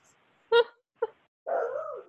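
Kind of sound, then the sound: animal, dog whimpering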